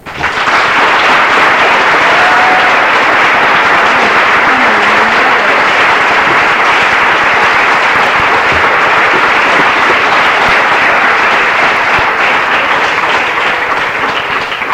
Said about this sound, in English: She's a little nervous, so if you all would give her a big round of applause down here and help her feel at home some.